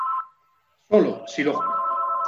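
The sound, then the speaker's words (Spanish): A telephone rings in the background with a steady electronic tone that pauses briefly, then resumes as a short burst of voice cuts in over it. “Perdón, ¿se oye un teléfono de fondo? Voy a apagarlo, voy a un segundo.”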